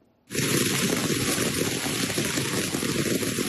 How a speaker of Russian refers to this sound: Проливной дождь превратил улицы в реки. Потоки грязи и растаявшего снега сносили автомобили.